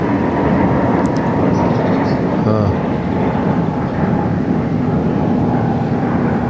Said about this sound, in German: Ah. Und wieder ein Flugzeug